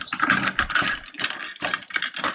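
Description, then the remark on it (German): Rustling and crinkling as objects are shuffled around inside a box, coming in uneven bursts with short pauses, no voices. “Ach krass, guck mal, was ich hier noch in dieser Kiste Hört habe. ihr, wie es raschelt?”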